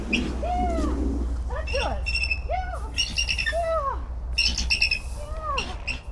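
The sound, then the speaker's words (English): Phoenix, a bald eagle kept at a zoo, calls in response to her handler speaking to her, a run of high, squeaky chirps and thin rising-falling squeals, repeating about every second over a steady low hum. “She's grown attached to her over the years, and when she speaks to her, Phoenix responds.”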